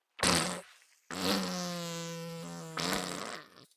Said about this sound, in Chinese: 好臭啊！洗澡的时候放屁，闻起来好臭啊！